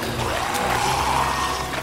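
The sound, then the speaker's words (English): A steady rush of flowing water from a river stream that is picking up, loud and continuous with a churning, hissing texture and no pauses or talking. “Oh no! The stream is picking up!”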